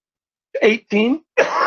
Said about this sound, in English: Got me coughing